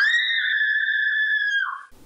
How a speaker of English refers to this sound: Gee, what kind of scream is that? That sounded fear. Absolutely right.